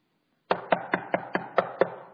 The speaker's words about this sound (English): a knock came on that camper door.